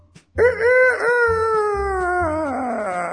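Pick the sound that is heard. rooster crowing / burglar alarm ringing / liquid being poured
rooster crowing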